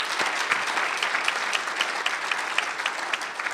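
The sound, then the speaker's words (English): A steady round of applause from a group for a speaker after a presentation, dense clapping that holds at an even level for several seconds with no voices over it. “I think before I say any remarks, I'd like to give a round of applause for Dr. Butler.”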